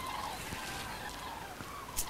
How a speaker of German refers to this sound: Ja, klingt wie schlecht geölte Türen, sind aber wirklich Kraniche. Und ich kann das gar nicht abschätzen, wie viele das sind. Das sind ja wahnsinnig viele.